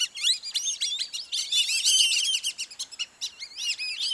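A flock of whistling ducks calls continuously, many thin, high whistles overlapping in a busy, chattering chorus with no voices present.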